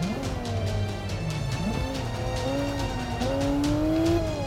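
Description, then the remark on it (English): A racing car engine in a driving video game drones and shifts pitch as it accelerates, with tires squealing and skidding, all loud and continuous with no talking. “Maybe it's just because I know exactly how this car is supposed to drive in real life, and it doesn't make sense to me what happens in the game.”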